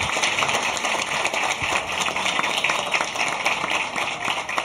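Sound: audience applause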